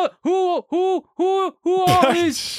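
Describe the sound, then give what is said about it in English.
A person's voice imitates a goofy owl with four evenly spaced, rounded hoots, fairly loud, the last one breaking into a breathy rush of noise. “You're doing a good impersonation of a goofy owl.”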